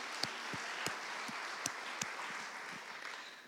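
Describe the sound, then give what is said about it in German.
An audience applauds with a steady wash of many hands clapping, a few sharper individual claps standing out, moderately loud and sustained throughout; applause during a sermon for a volunteer who has come to the front to sit in the first row wearing a vest. “Genau, gib dir mal einen Applaus.”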